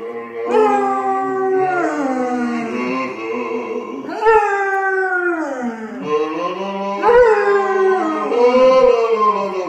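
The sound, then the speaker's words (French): A dog howls in long, wavering rises and falls while a man sings along with it in the shower in a lower voice, three loud sustained phrases, the two voices blending closely. “Un homme chantant en chœur avec son chien sous la douche.”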